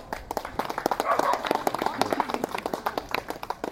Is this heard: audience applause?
yes